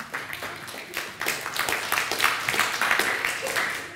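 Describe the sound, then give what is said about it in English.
A church audience claps for about four seconds, a dense, steady patter of many hands at a moderate level with no voices over it. “Give her a clap.”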